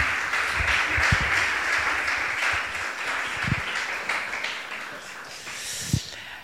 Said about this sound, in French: On peut l'applaudir aussi